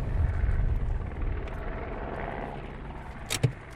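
A British Army helicopter's deep, throbbing rotor rumble fills the scene steadily, fairly loud, with a sharp brief click near the end and no voices.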